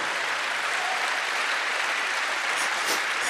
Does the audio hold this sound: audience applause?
yes